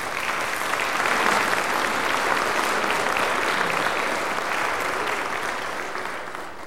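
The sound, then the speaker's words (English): A crowd in a church claps steadily for several seconds, applauding students who took part in a victory, a dense wash of applause from many hands, tapering slightly toward the end. “A number of students who participated to this victory are here in the church this morning, if we wouldn't mind giving them a round of applause.”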